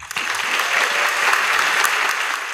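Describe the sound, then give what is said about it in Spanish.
A crowd applauds steadily for Geraldina González, president of COPRED, at an event in Mexico City recognizing socially responsible businesses, the dense clapping holding at an even loudness for the whole stretch with no voices standing out. “Recibamos con un fuerte aplauso a Geraldina González, presidenta de COPRED.”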